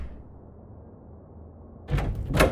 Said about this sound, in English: They march out of the front door and slam it behind them.